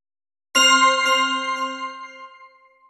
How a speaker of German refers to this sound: Klingel. Die Klingel.